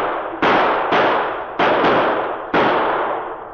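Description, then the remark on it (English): Five loud, sharp revolver gunshots fired by a Mountie at a charging bull moose, in an uneven quick sequence, each a hard crack followed by a ringing decay, with no voices. “Preston quickly drew his gun, and as the bull moose turned aside with lowered antlers to lunge at King, the Mountie's gun barked.”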